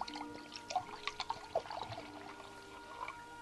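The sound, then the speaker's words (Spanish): Water pours steadily into a glass, a bubbling, gurgling trickle with small splashes over about three seconds, with a faint tonal hum underneath; a man pouring his usual glass of water before going to bed. “Su acostumbrado vaso de agua.”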